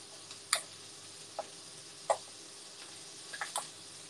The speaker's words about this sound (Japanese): ハサミでパチパチ。